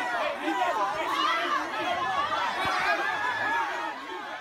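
A dense crowd of people pushing and shoving fills a hallway at a protest, with steady, loud overlapping chatter and scattered laughter, many voices blending into a constant roar with no single speaker standing out.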